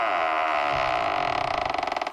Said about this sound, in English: Here we go, opening up the vault door.